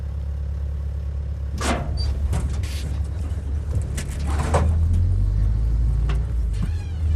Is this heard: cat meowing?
no